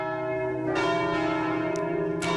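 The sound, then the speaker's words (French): Church bells made by the Paccard foundry ring out loudly and continuously, overlapping strikes blending into a rich, sustained metallic peal with a long resonant hum underneath, and no voices present. “Est-ce que vous reconnaissez ce son ? C'est sûr, les cloches.”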